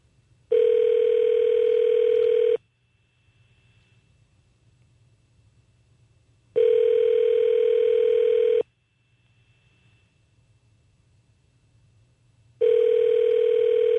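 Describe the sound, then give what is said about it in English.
A telephone ringback tone sounds three times, each ring lasting about two seconds with roughly four-second pauses between, repeating steadily with no answer over a faint line hiss. “Maybe somebody will just walk by and pick up the phone.”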